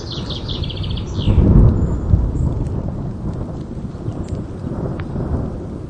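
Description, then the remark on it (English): A deep rumble of thunder swells and rolls away over a steady hiss of falling rain, with faint bird chirps early on. No voices. “So now we're going after the storm.”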